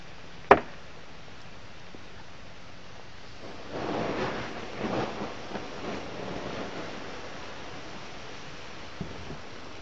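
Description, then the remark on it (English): A single sharp crack of a fire-heated rock quenched by a trash can full of water pushed down onto it, then a rushing hiss of the water vaporizing that swells and fades, with one faint tick of the rock still cracking near the end. No one speaks. “You know, you can actually still hear it cracking a little.”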